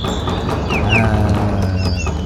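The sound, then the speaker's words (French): A busy chorus of birds, with clucking fowl and chirps overlapping continuously, fairly loud with no pauses. “J'adore. Des oiseaux, bien les oiseaux.”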